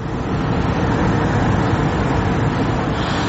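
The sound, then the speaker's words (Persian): A steady rumble of idling car engines from vehicles queued to buy natural gas at a gas station in Uzbekistan around 4 a.m., continuous and unbroken with no voices, a dense low drone of traffic noise throughout. “من این نوبت ماشین ها برای خریدن گاز طبیعی است.”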